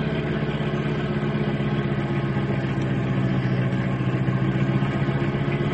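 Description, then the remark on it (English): A car engine drones steadily as the vehicle cruises along a highway, a continuous low rumbling hum at an even level throughout, with no voices. “Move across the highway as soon as we come into the straightaway.”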